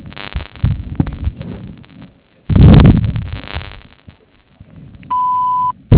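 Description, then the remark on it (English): Muffled low thumping and rumbling noise gives way to a single steady, high-pitched voicemail beep lasting about half a second near the end, following a phone voicemail greeting. “Please leave a message with your phone number, and I will call you back.”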